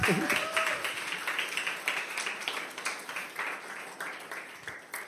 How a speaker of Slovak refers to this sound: Tu by chcel aj potlesk, nie?